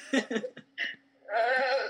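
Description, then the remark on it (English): A loud sheep bleat holds for about half a second with a wavering, nasal tone, following a few short bursts of giggling or vocal sounds. “It was a sheep orgasm.”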